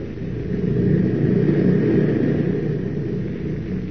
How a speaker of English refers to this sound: On across the unlimited wilderness of northern Canada, the plane wings its way, carrying not only Perry White and his party, but also the man who has vowed to destroy them.